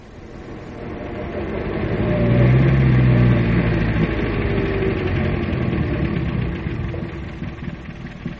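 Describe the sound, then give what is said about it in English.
A car engine rumbles in, its low drone swelling to a peak after a few seconds and then easing off as the car slows, a steady mechanical hum throughout. It is Miss Whitby's car arriving, its paintwork unmarked. “That's her car.”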